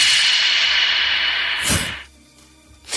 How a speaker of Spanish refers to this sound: Aquí no hay absorción, excepto nosotros que estamos ahora mismo aquí dentro. ¿Ves cómo suena? Es como si tuviera eco todo lo que dices. Se genera ese efecto contrario. A ver cómo suena en esa cámara la claqueta.